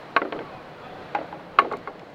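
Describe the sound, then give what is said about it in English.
Sharp mechanical clicks from the pendulum arms of a giant walk-through clock mechanism, a few crisp ticks spaced about a second apart, each trailed by softer rattling clacks, over a faint steady hum with no voices. “This is the idea of hearing sounds that you normally wouldn't pay attention to by concentrating on one clicking rhythmic sound. They constantly just go click, click, clock, click, click, clock.”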